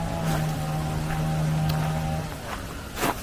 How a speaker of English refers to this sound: I'll just get as far away from this noise as I can, because it's a little bit much. Chainsaw is not what you want on a Saturday afternoon.